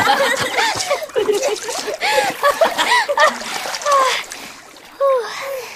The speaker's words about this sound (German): Plitsch, platsch, plitsch, platsch, plitsch, platsch, plitsch. Achtung! Ich spritze euch alle nass!